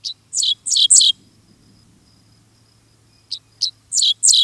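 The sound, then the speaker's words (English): A dickcissel in a tallgrass prairie sings rough, buzzy notes in two bursts of quick repeated phrases separated by a pause, with a faint insect hum steady in the background. “A dixisal offers its rough notes.”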